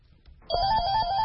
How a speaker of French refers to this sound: Dans une salle de la Commission nationale anticorruption, le téléphone ne cesse de sonner.